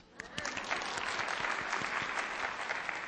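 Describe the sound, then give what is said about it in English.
Steady applause from women in the audience answering whether they have ever been deceived by their feelings, many hands clapping in a dense, continuous wash that rises quickly and holds at a fairly loud level throughout, with no voices standing out. “Now, how many of you ladies, by applause, have ever been deceived by your feelings?”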